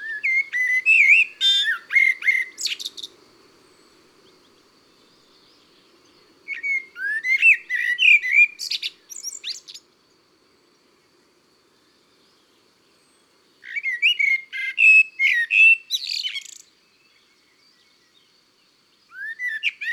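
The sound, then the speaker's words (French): A Eurasian blackbird sings clear, fluting phrases in three separate strophes with pauses between them, each ending in higher twittering notes; fairly loud, with no other voices. “Ses strophes sont toutes différentes, avec beaucoup d'inventions, de la musicalité. Le merle est un artiste.”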